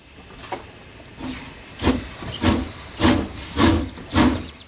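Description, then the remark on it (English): A steam train hisses and chuffs in a steady rhythm, its puffs of steam growing louder as it starts moving, with a faint whine underneath and no voices. “Come on, children. Let's get on the train.”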